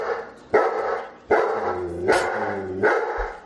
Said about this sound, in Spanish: Es grande. Este tiene que ser un labrador. Es un pastor alemán, pero era difícil, no puedes acertarlo todo